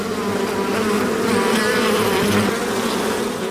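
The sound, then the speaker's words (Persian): A dense, steady drone of many honeybees buzzing together at a bee farm on the outskirts of Herat, Afghanistan, fairly loud, with layered humming tones holding constant throughout and no voices. “در حاشیه شهر هرات سه فارم زنبور عسل دارد که به تنهایی آنها را مدیریت میکند.”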